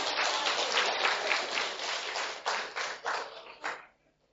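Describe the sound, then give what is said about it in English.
A group of people applauds themselves, a dense wash of clapping that thins into a few scattered, distinct claps before stopping around four seconds in. “Clap for yourselves.”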